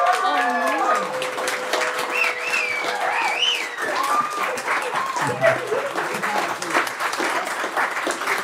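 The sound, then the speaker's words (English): A show audience bursts into sustained applause to vote for the segment Pick the Pedo as the better segment, dense overlapping hand claps holding steady for several seconds, with cheering and shouting voices rising over the clapping throughout. “If you think Pick the Pedo was a better segment, clap your hands.”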